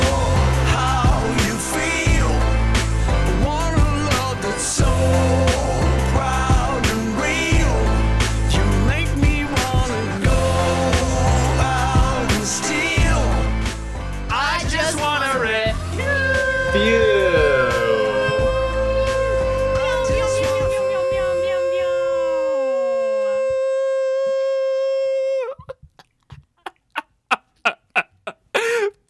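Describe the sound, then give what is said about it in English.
A bright, full-band theme song plays loud and steady with no voices, then settles into a long held chord that rings out and cuts off, followed by a few soft taps. “That's a really fun theme song you guys have.”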